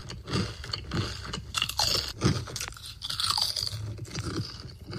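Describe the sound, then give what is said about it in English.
Loud crunching as someone chews crisp food, with dense irregular bites and crackles running continuously for several seconds and no talking. “Are you bothered by the sound of your own crunching noises in your own mouth?”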